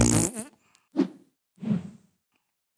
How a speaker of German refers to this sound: Und ja, da bleibt uns nichts anderes übrig, als sie da ins Mikrofon zu furzen.